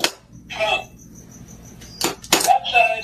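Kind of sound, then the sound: animal, dog scratching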